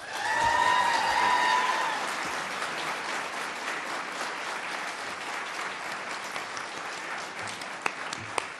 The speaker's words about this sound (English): We do invite you to applaud now as we introduce our candidates. We begin with the incumbent, Republican Senator Mark Kirk.